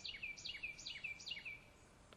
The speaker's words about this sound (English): Hey, do you hear that? That bird singing? No one's firing.